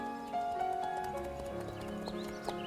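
horse hooves clip-clopping

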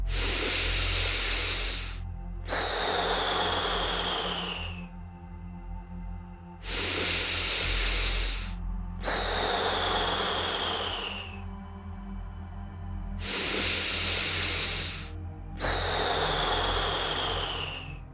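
slow deep breathing

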